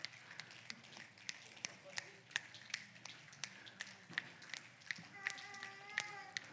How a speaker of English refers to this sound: All right, everybody stand to your feet. Now, real soft, begin to snap your fingers. Snap your fingers, everybody. All over. Now bring it harder.